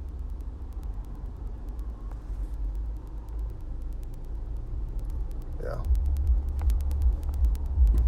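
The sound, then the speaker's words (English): Steady low engine and road rumble from inside a moving car in rush hour traffic, with faint ticking clicks, a brief rising squeal partway through, and a person saying a single word. “That's the problem when you're driving rush hour traffic is you deal with shit like this.”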